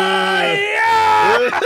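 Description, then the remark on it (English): A loud human vocalization, a low strained growl that rises and shifts in pitch into a sustained, harmonic scream lasting under two seconds, then breaks off roughly at the end. “It starts as a growl of disgust, but ends up a scream of power.”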